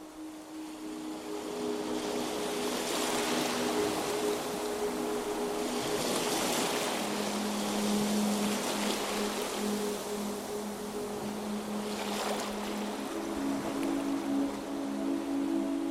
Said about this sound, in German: Langsam gehst du darauf zu, spürst die leichte Brise auf deiner Haut und hörst das rhythmische Rauschen des Meeres.